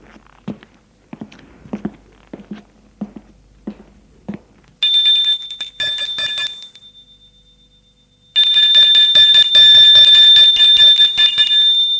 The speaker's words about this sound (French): Il a sonné à la porte. La porte s'est ouverte.